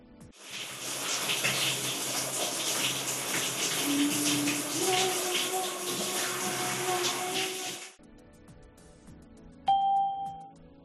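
A shower runs with a steady, hissing rush of water for about eight seconds, then cuts off abruptly; a single bright chime rings shortly after.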